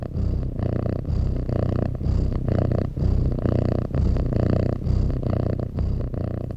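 A cat purrs steadily, a low rumbling drone pulsing in a regular rhythm of breaths in and out, with no voices.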